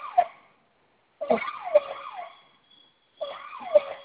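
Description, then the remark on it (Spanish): An electronic security alarm siren, being reset at its keypad, wails in repeated sweeping, warbling bursts separated by short silent gaps, fairly loud, with no voices present. “Se silenció la primera alarma. Se silenció la primera, sigue la otra.”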